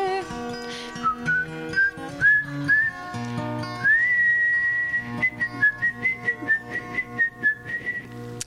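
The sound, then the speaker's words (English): Someone whistles a melodic tune, clear, with sustained pitches gliding between notes over a soft rhythmic accompaniment; no one is speaking. “You impudent little daughter, what makes you whistle now?”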